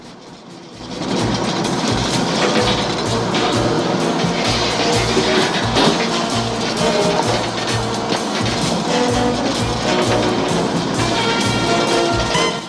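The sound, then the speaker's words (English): A large bus rumbles along, its engine and road noise loud and steady for several seconds as it is maneuvered around a corner, with no voices. “He maneuvers the bus around a corner.”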